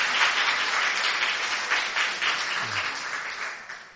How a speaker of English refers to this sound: Give a big hand clap. Yeah?